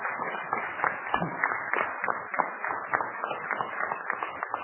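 A room full of people clapping steadily, a dense wash of overlapping hand claps that holds at an even level throughout, with no voices standing out above it.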